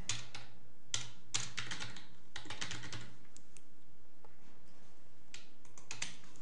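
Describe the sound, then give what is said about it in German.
Typing on a computer keyboard, entering a task description in project-planning software: a steady run of quick, crisp key clicks in uneven bursts, with short pauses between flurries and no one talking. “Kann ich dem Kollegen oder in dem Fall mir selber zuweisen und dann wieder die Aufgabe reinschreiben, UI für Programm starten implementieren.”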